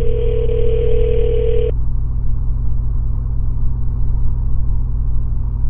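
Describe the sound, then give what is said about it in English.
A steady phone tone sounds for under two seconds as a call is dialed from a Motorola Q smartphone linked by Bluetooth to a Zulu headset, then cuts off, over the loud, continuous drone of the idling engine of the airplane the caller sits in. No one speaks. “So now I'm still in the airplane with the engine running, and the Zulu is happy talking with my Motorola Q smartphone, so let's just dial a call here.”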